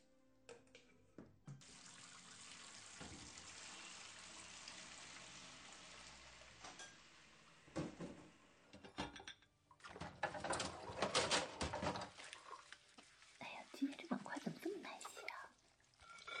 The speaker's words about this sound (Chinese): 哎呀，哎呀，这洗碗的水都溅到衣服上了。可是不用力洗的话，又洗不出来。哎，真是没办法呀。哎，这下终于洗干净了。